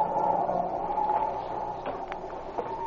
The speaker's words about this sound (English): Boy, listen to that wind whistle around the corner of the building.